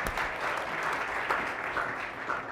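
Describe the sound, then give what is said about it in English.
An audience claps steadily after being shown an advertisement, a dense, sustained wash of applause with no voices rising above it. “This is very meta because you've all just applauded an advertisement.”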